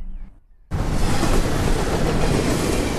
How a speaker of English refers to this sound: Hello, I'm Ross Kemp on trains. And I'm on the verge, next to a busy railway line, filming and viewing trains through my binoculars.